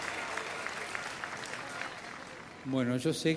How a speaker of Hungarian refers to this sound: Nekik is egy tapsot.